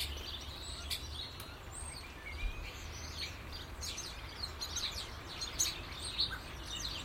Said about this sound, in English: It'd be a long playing version of birdsong. I can imagine. I can't imagine a life without birdsong.